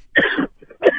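A raspy throat clearing in two gravelly bursts, a longer rough rasp followed by a brief pause and a second shorter clearing, with no talking.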